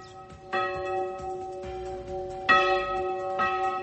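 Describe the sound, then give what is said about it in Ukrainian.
Church bells ring out in overlapping strikes, about three clear peals with long shimmering harmonic tails that hang and blend together, fairly loud and resonant with no voices. “має приблизно 600 церковних соборів, їхні бані прикрашають понад 1500 дзвонів та давнє мистецтво церковного дзвонарства відходить тут у небуття.”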